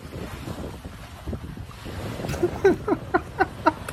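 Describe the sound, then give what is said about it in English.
Ocean waves wash and slosh against a steady rush of wind, and toward the end a run of short, squeaky bursts repeats in a loose rhythm as someone mops up water. “Anyone listening to the audio version, it's some guy trying to mop up the ocean.”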